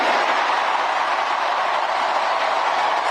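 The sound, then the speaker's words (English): A crowd at a Tim Walz rally cheers in a steady, loud roar of massed voices that holds at an even level throughout, with no single speaker standing out. “Why are you cheering for that?”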